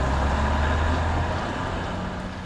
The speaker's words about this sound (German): Derweil macht sich Martin Fritsche mit seinem Rufbus wieder auf den Weg zum nächsten Fahrgast